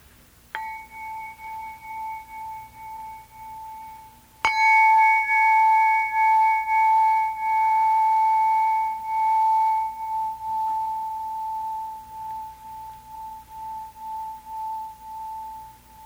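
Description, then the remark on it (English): Bells ring out with two struck tones, a soft first strike and a louder second a few seconds later, each leaving a clear, steady mid-pitched ring that slowly fades over many seconds. “Let yourself also hear the sound of the bells.”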